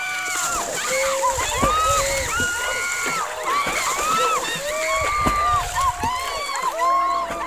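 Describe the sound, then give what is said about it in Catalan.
Water splashes and sloshes steadily and loudly throughout as a ship sinks, churning without pause while many voices cry and call out over the top in a dense, chaotic mix. “Doncs la mesura que entrava l'aigua a les diferents càmeres d'aire, aquelles forces es desequilibraven i el vaixell comença a enfonsar-se per un costat, plup, plup, plup, fins a desaparèixer.”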